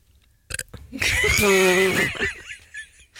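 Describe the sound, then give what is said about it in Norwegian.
A loud, drawn-out burp rumbles for about a second, rising and falling in pitch, with brief laughter-like noises before and after it. “Bra rap.”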